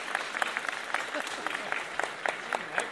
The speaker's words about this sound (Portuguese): Uma salva de palmas para os compositores.